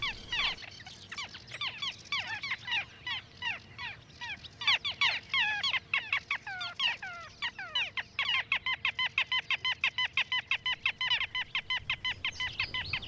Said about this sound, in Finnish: Vähän ennen vappua, kun ensimmäiset pikkulokit saapuvat käkättämään. Siinä on ääntä ja vimmaa, kevään riemua. Pikkulokki on eloisimpia lintuja, mitä ajatella saattaa. Oikea ilmataituri, akrobaatti.